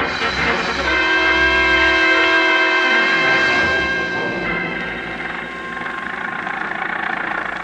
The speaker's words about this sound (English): I was slammed into an old Model T Ford, and off we went roaring through the back streets of Cairo.